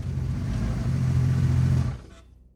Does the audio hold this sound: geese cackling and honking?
no